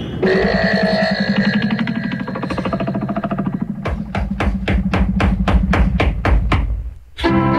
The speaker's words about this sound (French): On frappe à la porte là! Quelqu'un peut aller ouvrir, là, je suis dans le jacuzzi!